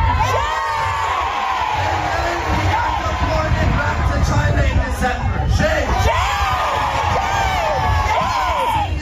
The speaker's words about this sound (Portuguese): Em São Francisco, os manifestantes seguravam cartazes pedindo o fim do órgão anti-imigração e gritavam palavras como vergonha.